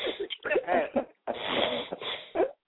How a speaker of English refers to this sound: Who is that snoring like that?